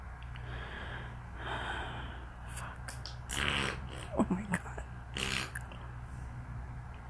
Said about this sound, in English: That was big fart noise. Very big fart noise.